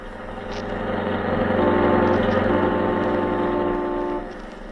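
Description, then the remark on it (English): A car engine hums steadily, a low droning tone that swells and rises in pitch midway through, then eases off near the end. “I know how to handle a car.”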